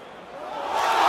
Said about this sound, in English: He's got the crowd on his side. He kicks Tavares in the balls. And the crowd is booing because they saw their boy Chris Weidman with momentum.